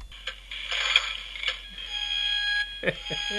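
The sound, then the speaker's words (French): Electronic sound effects from a 1/15-scale DeLorean replica model with sound and lights, from the Cinéma Passion shop in Québec, set off by pressing on it while it is held in the hands: a steady bright buzzing tone with clicks and beeps layered over it, then a short burst of vocal sound near the end. “Là, moi, je suis en train de peser sur un putain de la DeLorean que je tiens présentement dans mes mains.”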